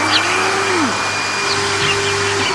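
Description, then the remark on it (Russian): A vacuum cleaner runs steadily, its motor droning with a thin high whine and a lower hum that briefly sags in pitch before settling again. No one speaks. “Соси меня пылесосом и быстрей!”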